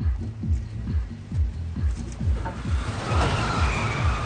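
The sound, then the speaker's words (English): A Lexus engine rumbles low and throbbing as the car pulls away and drives along mostly empty streets, then through a housing project, its pulsing drone joined by a rising hiss of tyre and road noise toward the end. No one speaks. “Hao drives mostly empty streets, then through a housing project.”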